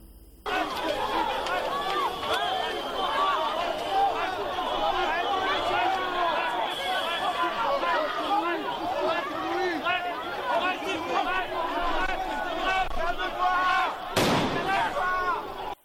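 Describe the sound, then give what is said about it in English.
A dense crowd of demonstrators clashing with police in a street in Paris, France, protesting soaring living costs and climate inaction, roars and shouts continuously with many overlapping voices, then a single sharp, loud bang cuts through near the end before the clamor carries on. “Clashes have erupted between French police and angry demonstrators who rallied in the capital, Paris, to protest against soaring living costs and climate inaction.”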